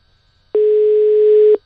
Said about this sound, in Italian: Secondo squillo. Terzo squillo. Quarto squillo.